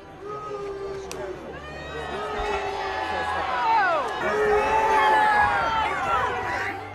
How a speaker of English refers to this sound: Why are they booing you, they're King booing Charles? They're booing the egg throw.